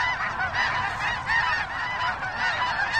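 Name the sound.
migrating geese honking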